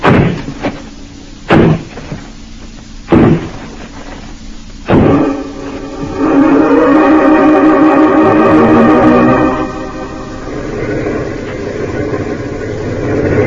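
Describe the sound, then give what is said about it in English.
Four heavy, booming blows strike the door of a dance hall in town a second or two apart as men batter it down, followed by a vehicle engine starting up and running loudly. “All right, men. Smash down that door.”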